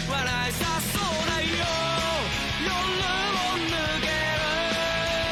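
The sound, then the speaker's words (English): A punk rock song plays loudly and steadily, with a strained, half-shouted male vocal riding over dense distorted guitars and pounding drums, the singing wavering between melody and a soft scream. “It's like that mellow kind of scream going on.”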